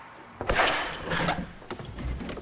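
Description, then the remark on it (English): A warder unlocks a door: a key rattles and a lock clunks open, several short, sharp metallic clicks and knocks spread over a couple of seconds, fairly loud, with no voices. “smiling and nodding at a warder who unlocks a door for him.”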